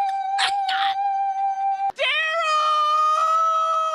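A woman yells a man's name in a long, high, drawn-out holler, two sustained loud calls back to back with a brief break between them and no other sounds; the first-place winning call in a yelling contest.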